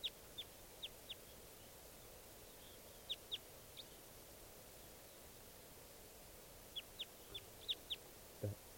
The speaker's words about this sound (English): Yeah. Recording that wild bird's still here.